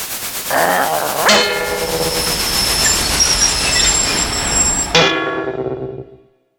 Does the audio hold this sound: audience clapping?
no